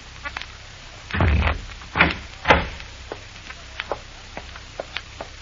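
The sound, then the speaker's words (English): A heavy, thick, soundproofed door groans and thuds shut with a few deep, booming impacts, followed by a scattering of small, sharp clicks like a latch or bolt settling. No voices. “Heavy walls. Thick door. Soundproofed.”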